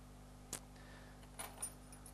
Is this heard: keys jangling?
yes